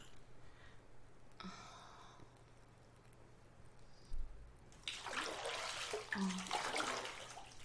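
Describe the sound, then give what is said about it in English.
Warm bath water sloshing, starting quietly with faint splashes before swelling into louder, broad churning surges through the second half. No one speaks. “The water is lovely and warm.”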